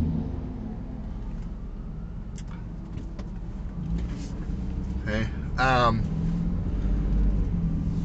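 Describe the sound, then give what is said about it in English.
A fire truck drives past without its siren on, its deep engine drone steady and swelling slightly toward the end, while a person speaks briefly over it. “Oh, here comes the fire truck. That doesn't have its sirens on.”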